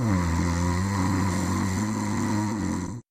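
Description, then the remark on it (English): A loud snore rattles through one long, drawn-out breath, deep and rasping, filling the whole moment before cutting off abruptly. “How come if someone's snoring so loudly that everyone else in the house is awake, that the snoring doesn't wake up the snorer?”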